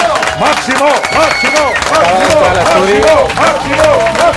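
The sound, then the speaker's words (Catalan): An audience applauds a guest loudly and steadily, dense clapping filling the whole stretch while excited voices and cheers rise and fall through it. “Demano un fort aplaudiment”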